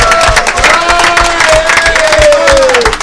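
A crowd bursts into loud, steady applause mixed with cheering and shouting voices, while a long, high whistle rises and slowly falls above the din for the full three seconds.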